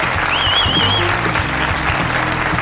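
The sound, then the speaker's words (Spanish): Steady applause from an audience of 85 people, a dense patter of clapping that holds at a fairly loud level for a few seconds, with a faint whistle rising above it. “85, un aplauso.”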